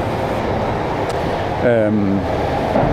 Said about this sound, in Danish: Nu kommer der lige en bil mere. Ja, der er gang i Aarhus sådan en onsdag formiddag.